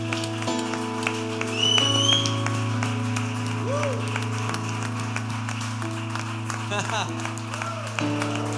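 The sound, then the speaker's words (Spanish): An audience applauds steadily throughout in praise of Jesus, a dense patter of clapping over sustained keyboard chords, with voices calling out over the music. “Ya te aplaudimos.”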